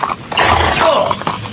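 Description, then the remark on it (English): A very large horse's hooves clop in a dense, steady rush of sound, with a short, high neigh rising briefly in the middle. “I believe that's the biggest horse I've ever seen.”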